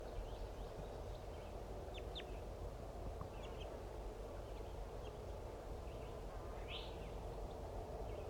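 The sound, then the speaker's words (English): Brief, high chittering calls of a male bird come in a few quick bursts over a steady low rumble, fairly faint, with one slightly louder call near the end, as the male joins a female going down as a pair. “There's a female going down. Joined by a chittering male.”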